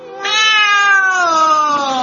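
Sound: cat meowing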